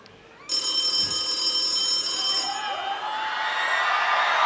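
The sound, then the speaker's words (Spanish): A bright, electric telephone bell rings continuously and loudly after a brief quiet moment, its metallic jangle filling the space with some background noise behind it. “Ese teléfono.”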